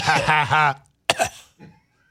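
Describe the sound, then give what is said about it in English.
A voiced, drawn-out vocal sound is followed by a sharp cough and a softer trailing rasp: a deliberate, staged cough made by a voice rather than a genuine one. “Listen for the fake cough coming up here in just a second.”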